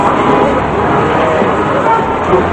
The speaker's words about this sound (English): Holding the straps of the backpack, Dusan moves through the crowded New York City street.